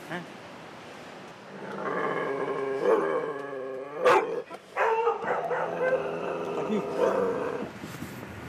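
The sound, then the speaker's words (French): A frightened, trembling dog in a small box barks and whines nervously in a steady run of loud, strained yelps lasting several seconds, with a sharp knock partway through. “Oui, votre chien. Repos, il est au repos. Il est dans le petit box. Il tremble. C'est parce qu'il a peur.”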